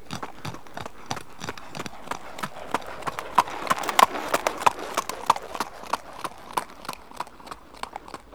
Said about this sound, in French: Quand le cheval court doucement, on dit qu'il trotte.